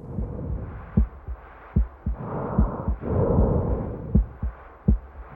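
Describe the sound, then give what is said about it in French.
A patient's heartbeat heard through a doctor's stethoscope during an examination, the patient breathing deeply: low, muffled thumps in a steady rhythm, roughly paired, with a soft whooshing breath sound swelling in the middle. No one speaks. “Respirez profondément, je vais écouter votre cœur.”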